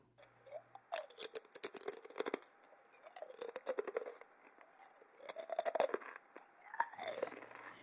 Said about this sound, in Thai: เปรียบเทียบกับเสียงเคี้ยวมันทอดค่ะ